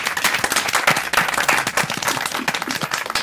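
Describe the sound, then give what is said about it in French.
A crowd applauds steadily to welcome two guests who have just joined, many hands clapping in a dense, continuous patter at a fairly loud level, with no voices standing out above it. “je vous demande d'applaudir également, s'il vous plaît.”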